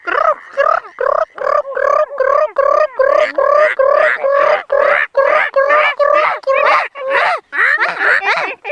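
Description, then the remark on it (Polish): Several voices croak in a fast, steady stream of short rattling grunts, imitating the calls of tree frogs together; the sound is loud and continuous with brief gaps. “Rzekotki, spróbujecie teraz naśladować?”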